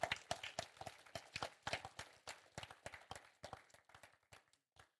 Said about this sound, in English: I think it's a good place to clap for them.